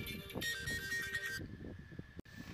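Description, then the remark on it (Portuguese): A phone ringtone from an incoming call plays: bright, layered electronic tones for about a second, then a thinner sustained beep over low background rumble, briefly cutting out near the end. “Entrou alguém chamando um telefone aqui, rapaz.”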